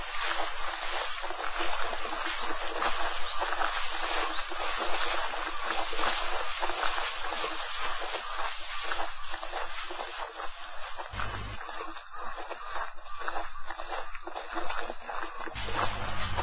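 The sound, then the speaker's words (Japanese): The upper reaches of the Kumano River, reached by a mountain road: flowing river water rushes steadily throughout, a dense, continuous wash of sound that stays fairly loud and even, with no voices. “左へ小さく巻き込む道が反転したところで、おお、川だ、川が見えるだぞ。”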